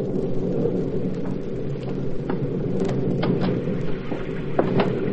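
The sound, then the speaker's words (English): A steady, heavy downpour fills the scene with a continuous dense rush and low rumble, scattered sharp spatters popping through at irregular moments, with no voices. “It's not bad enough that it has to be raining, cats and dogs.”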